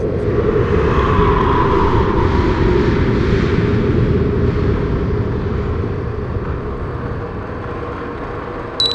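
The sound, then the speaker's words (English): Loud, steady mechanical drone of a station's big exterior exhaust gears and heating fans running, a dense low rumble with a whirring hum above it, continuous throughout with no voices and a brief click at the end. “Exhaust gears and heating fans.”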